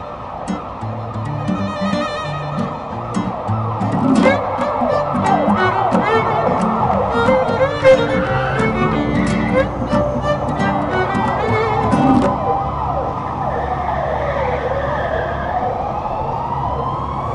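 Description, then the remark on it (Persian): An ambulance siren wails loudly and continuously, its pitch sweeping up and down over the steady rumble of a car engine driving behind the ambulance, which is on an emergency run. “همین که افتادی پشت آمبولانس، اون کارش اورژانسیه، داری استفاده ابزاری میکنی ازش.”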